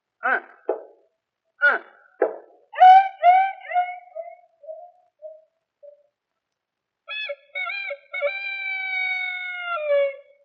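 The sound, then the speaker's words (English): A human voice imitates a dog going at chickens: a few sharp clucks, then a falling yelp and a long, wavering dog howl, loud with short pauses between. “that nasty dog is at them chickens again.”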